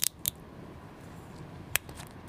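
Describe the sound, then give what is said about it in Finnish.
An energy drink container with a metal cap being cracked open: two quick sharp clicks, then a pause and one more crisp snap, over a faint steady hiss with no talking. “Mä aion nyt kräkätä tän auki. Tältä kuulostaa kuin korealainen marsu aivastoa.”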